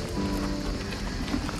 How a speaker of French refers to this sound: On est en train de marcher sur un chemin de terre caillouteux. Au pied de la montagne Sainte-Victoire, tout près d'Aix-en-Provence, on voit le pic qui culmine à 1000 mètres d'altitude. On est dans un décor provençal, sous les pins.